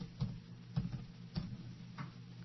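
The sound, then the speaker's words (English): Keyboard keys clicking in a sparse, irregular pattern, about five or six sharp taps spread over a couple of seconds, fairly quiet, with a low steady hum underneath and no talking. “Pay no mind to the keyboard sounds.”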